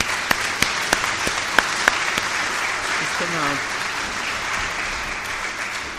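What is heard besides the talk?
audience applause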